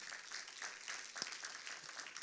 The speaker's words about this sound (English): I was at my daughter's basketball game, and an orange basketball got better applause than that. I said, how many of you love Jesus?